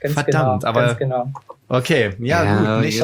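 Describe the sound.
A human voice imitates a chicken's clucking, producing a loud run of choppy, throaty clucks with a short pause in the middle before the clucking resumes.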